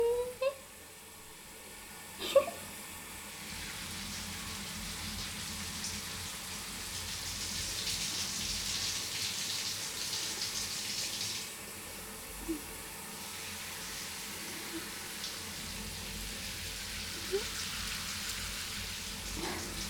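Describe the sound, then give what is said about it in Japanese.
Steady running shower water hisses while something fluffy is carefully scrubbed and washed, with a few soft knocks and splashes breaking through the continuous wash. No one speaks. “シゴシされるの気持ちいいの？”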